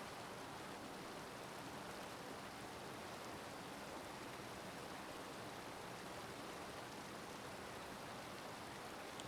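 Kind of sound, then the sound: nature, waterfall rushing water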